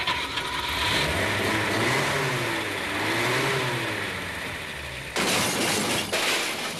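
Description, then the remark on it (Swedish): A car, accidentally put in reverse, revs hard and accelerates, its pitch rising and wavering, then a sudden loud crash of impact with shattering noise cuts in near the end. “Jävlar, jag la in backen.”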